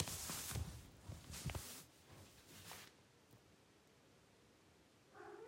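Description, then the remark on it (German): Rustling and soft bumps fill the first few seconds, then a cat's meow begins right at the end, brief, with no one speaking. “Bin voll deiner Meinung. Bin voller Meinung, Frau Katze.”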